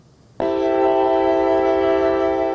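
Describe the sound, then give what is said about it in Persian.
At Dushanbe railway station, a passenger train bound for Volgograd sounds a loud, sustained horn that blasts abruptly after a short quiet moment and holds steady as a rich, multi-toned chord, dominant with no talking. “در ایستگاه راه آهن دوشنبه مسافران زیادی به این قطاره چیپته خریده و از می سفر داشتند.”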